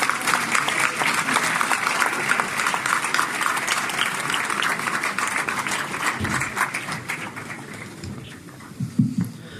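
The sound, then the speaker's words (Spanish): Sustained applause from a large audience fills the space, a dense steady patter of many hands clapping at fairly even loudness throughout, with faint murmurs underneath. “Para todos ellos, pido por favor un fuerte aplauso.”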